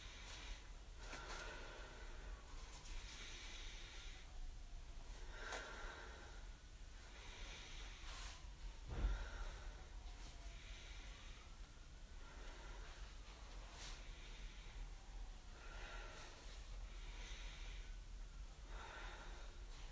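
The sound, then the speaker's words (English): Slow, steady breathing during a hamstring stretch with the leg held straight, with soft airy inhales and exhales repeating every couple of seconds. Quiet, with no talking, and one brief thump partway through. “So inhale, leg straight, exhale, relax ankle, and just keep breathing.”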